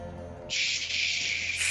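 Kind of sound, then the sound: sound effect, radio static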